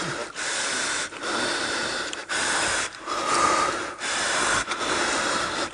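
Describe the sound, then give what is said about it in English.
Actor Guy Pearce breathes hard and heavily, with about five loud, rasping breaths in a steady rhythm, each separated by a brief pause. No talking. “You want to hear Guy Pearce breathing real hard?”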